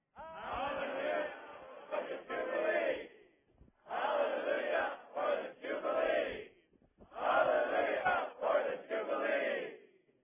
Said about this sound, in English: How about we stand up and shout hallelujah for the Jubilee three times.